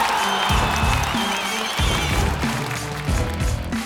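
An audience breaks into steady, dense applause that holds at a fairly loud level for several seconds, with a thumping low musical beat pulsing underneath.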